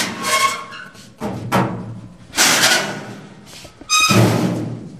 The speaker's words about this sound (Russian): Это при свете тусклой лампы распахиваются двери грузового лифта.